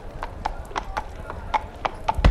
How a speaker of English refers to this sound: Oh, he's riding a horse around the bar. Let's listen to that for 10 seconds.